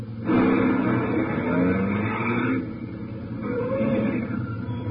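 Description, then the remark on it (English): A truck engine rumbles and strains as the truck comes around a curve toward the listener, loud and steady for a couple of seconds, then eases to a lower drone before building slightly again. “In fact, we take the one now coming around the curve.”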